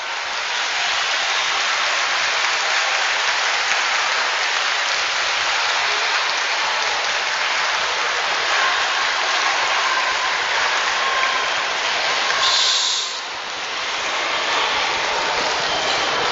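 A large audience of students applauds continuously for about sixteen seconds, a dense, steady wash of clapping that stays loud throughout and dips only briefly near the end. No one speaks over it.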